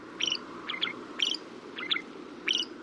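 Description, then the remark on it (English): A shrike sings a series of five short, scratchy, chattering phrases in a steady rhythm about half a second apart, over a low background rumble. “Technically, these little raptors are classified as songbirds, but to our ears, their song can sometimes sound less than appealing.”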